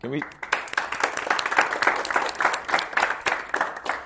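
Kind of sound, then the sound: crowd, audience clapping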